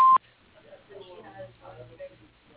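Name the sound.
answering machine beep tone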